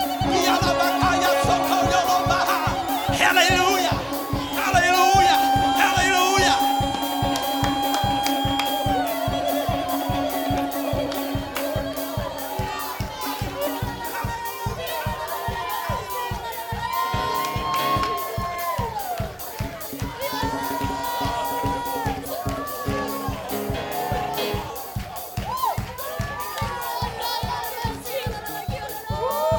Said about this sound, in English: Woo! Woo! Come on, don't mind our yelling. We're just apostolic. We're just apostolic. It's who we are.